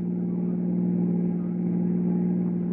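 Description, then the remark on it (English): A car engine hums with a steady, low droning tone and constant loudness as the car crosses the border, running alone without any voices over it. “And as the car crossed the border, the police started to close in.”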